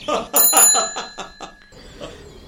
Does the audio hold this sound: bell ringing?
yes